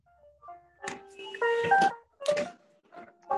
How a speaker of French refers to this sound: Ah, un téléphone peut-être, j'entends la musique.